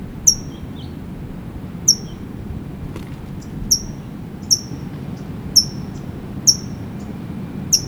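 A towhee gives sharp, high chip calls at irregular intervals, about seven in all, each a brief bright note over a steady low rumble of background noise.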